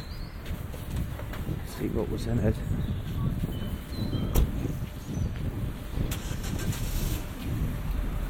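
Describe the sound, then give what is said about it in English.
Cars pass in busy town traffic, many of them small SUVs such as a Nissan Qashqai, Range Rover Sport and Land Rover Freelander, a steady rumble of engines and tyres with a sharper passing swell midway. Faint, indistinct voices sit underneath. “Busy town now, loads of cars here.”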